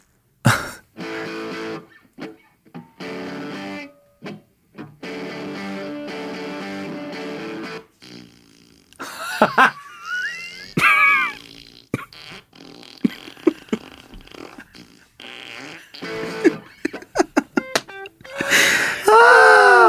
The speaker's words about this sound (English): And I think you'll be able to distinguish when the fart pedal kicks in.